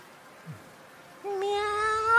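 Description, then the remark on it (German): After a brief quiet pause, a single long, steady cat meow begins and holds its pitch, sounding fairly loud. No one speaks. “Miau. Miau. Hey, Kätzchen. Magst du reinkommen?”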